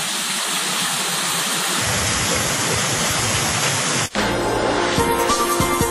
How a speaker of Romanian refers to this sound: Mai facem câțiva pași și suntem la cascadă.